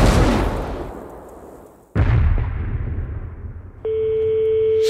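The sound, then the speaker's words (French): Ship cannons fire a broadside in two heavy booms about two seconds apart, each rolling off in a long rumble, before a steady high-pitched tone sets in. “Le moment est venu de leur adresser notre message d'adieu. Attends. À tes canons.”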